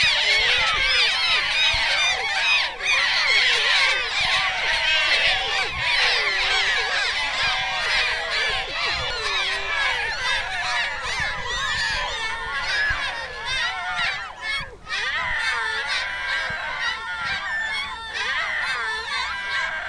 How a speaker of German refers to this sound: Und wo Elbwasser ist, da sind auch Möwen. Genau. Aber auch auf unserem Schulhof. Hamburg-Geräusch Nummer 4.